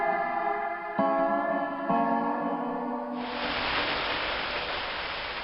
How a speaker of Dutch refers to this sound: Maar het regent er nog steeds. Ik zeg het maar even.